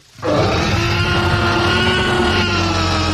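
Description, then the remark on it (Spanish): A huge, deep Tyrannosaurus rex roar from a movie, made by combining sounds of several animals such as a tiger, a lion, a horse and yawns of a seal, bursts in after a brief quiet moment and holds loud and rumbling, with a rasping, growling texture, until the end. “Los sonidos del Tyrannosaurus Rex fueron hechos con la combinación de varios animales, un tigre, un león, un caballo”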